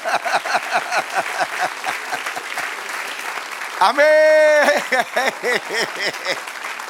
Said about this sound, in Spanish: Dame un aplauso al Señor.